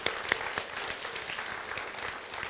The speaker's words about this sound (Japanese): Let's give the Lord a big clap for planting. 神様素晴らしいことをしてくれました。一緒に神様に拍手を捧げましょう。